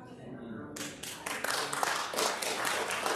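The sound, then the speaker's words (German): A church audience bursts into applause for Jesus after a brief moment of faint murmuring, the dense, steady clapping of many hands quickly building and continuing loudly to the end. “Dieser Applaus ist für Jesus.”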